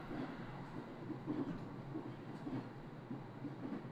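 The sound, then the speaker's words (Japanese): An electric train rumbles steadily along the rails, a continuous low roar with faint rhythmic clatter from the wheels, heard as if from inside a carriage while riding, with no voices. “電車の音が響く間に揺れる体。”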